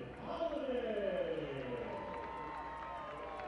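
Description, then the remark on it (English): A large home crowd at a baseball game cheers and applauds steadily as Jackson Holliday comes to bat for the fifth time, a dense roar of voices. A few shouts rise and fall early on before the ovation settles into an even wash of noise. “And each time Jackson's come to the dish, he's gotten a big ovation from the home crowd.”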